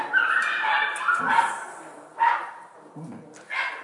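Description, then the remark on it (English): A person imitates a dog, giving a few short, yelping barks with whiny, nasal tones, spaced roughly a second apart, fairly loud with no other talking. “Born as dog and barked.”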